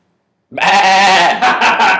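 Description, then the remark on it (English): After a brief silence, a person lets out one loud imitation of a goat's bleat, a sustained wavering "baa" with a shaky, trembling quality that lasts about a second and a half. “could you please make a goat noise right now?”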